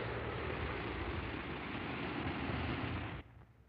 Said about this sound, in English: Drop an Alka-Seltzer tablet or two into a glass of water, like this. Now, listen to it fizz.